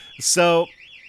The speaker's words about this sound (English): there's a car alarm going off right outside of the SS Game Buoy right now